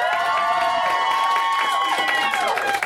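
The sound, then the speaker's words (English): An audience cheers and applauds to vote for The Secret of Nim, in a steady, loud burst, with high whoops and shouting voices over a dense wash of clapping that holds for about three seconds. “So, with your applause, who wants to hear Secret of Nim?”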